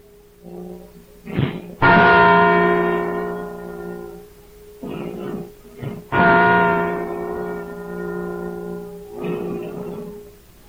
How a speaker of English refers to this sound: And now let us go for a minute to the belfry of Independence Hall and listen to the replica of the Liberty Bell as it tells the world that Edison's light has been born anew.